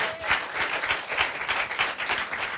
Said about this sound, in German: Nein, vielleicht einfach mal die ganzen rechten Spinner entfernen. Da kann man auch mal klatschen.